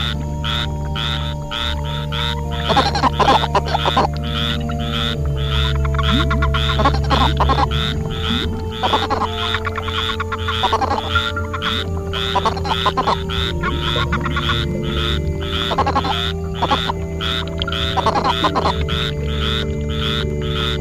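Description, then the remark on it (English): A Colorado River toad (Bufo alvarius) gives a series of short, clucking warning notes, repeated in bursts every couple of seconds, clear, with a steady low hum underneath and no talking. “Larger species, the Colorado River toad, Bufo alvarius, sounds a warning note that is more of a clucking sound than a chirp.”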